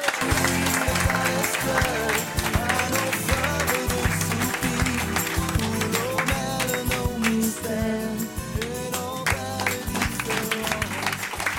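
Steady audience applause runs throughout, mixed with loud band music that has a driving rhythmic beat, with no pauses.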